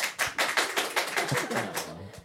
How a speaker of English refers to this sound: Applaud if you had one. Applaud if you wanted one, but we're not allowed one.